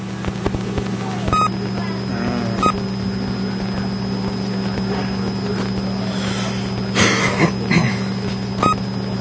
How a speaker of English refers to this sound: What is that beeping noise?